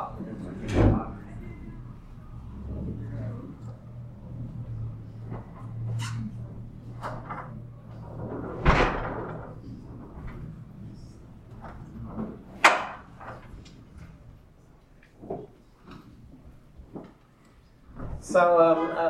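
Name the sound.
door being closed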